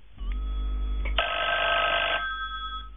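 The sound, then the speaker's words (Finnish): A telephone bell rings in one sustained burst, loud and bright with a metallic buzz, preceded and followed by a low hum and faint tones, sounding slightly muffled as if from a broadcast. It is part of a Finnish radio advertisement for telephones as Christmas gifts from Ikaalisten Parkanon puhelinosakeyhtiö. “Uusi edullinen puhelinkone joululahjaksi. Puhelimet tarjoushinnoin joulukuun ajan.”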